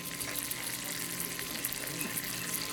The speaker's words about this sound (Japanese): さあ僕は骨付き桃一本焼きをお願いいたしました。まあ、新鮮な国産鶏の骨付きの桃肉を丸ごと一本、まあ、独自のスパイスで焼き上げてるというやつなんですけども、ステーキ皿の上に乗ってジュージューと音を立ててやってまいりました。